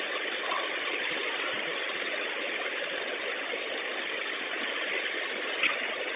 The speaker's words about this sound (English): Yes, it's the middle light on, the engine light on. And it's, the bus is shaking really, really bad, and there's no power on it.